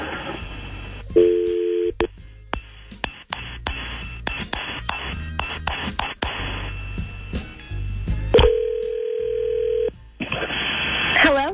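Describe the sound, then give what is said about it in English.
A brief tone and a string of quick keypad beeps as a phone number is dialed to call a woman, followed by one long, steady ringing tone on the line, fairly loud. “We can call her right now and let her know what's going on.”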